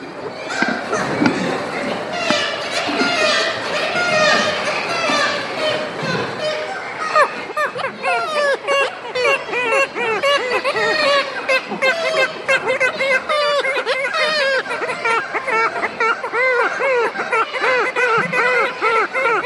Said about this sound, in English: High on the cliffs and high above a gully, kittiwakes make their presence known as gulls patrol the island perimeter.